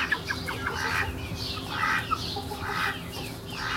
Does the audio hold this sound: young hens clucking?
yes